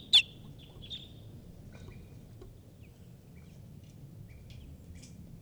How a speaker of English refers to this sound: And a wild bird is here giving alarm calls.